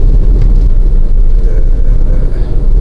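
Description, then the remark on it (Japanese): Steady, loud low-frequency rumble of a car cabin while driving as rain has begun to fall, a constant engine and road drone with no voices, filling the whole stretch evenly. “例によって車運転中でございます。”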